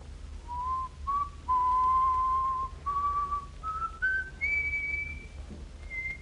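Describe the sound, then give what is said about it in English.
A person whistles a slow, simple tune alone, with clear sustained notes stepping gradually upward in pitch, steady over a low background hum. “Is you got a whistle, mister?”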